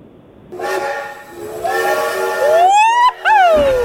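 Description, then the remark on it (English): A loud steam train whistle sound effect, played for the 'Trubisky train', blows with a breathy hiss, its chord-like tone swelling and bending upward in pitch, cutting out briefly near the end before one more rising blast. “woohoo, it's the Trubisky train. You got that for him”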